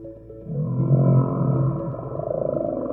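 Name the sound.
whale vocalization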